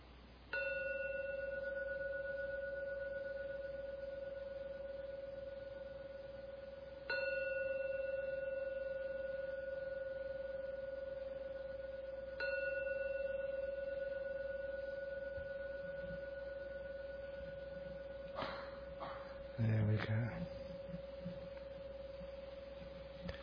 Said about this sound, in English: Please listen to the sound of the gong. And when the last ringing of the gong vanishes, only then, it's much nicer to keep your eyes closed until the 3rd ringing of the gong. And let the gong resonance take you out.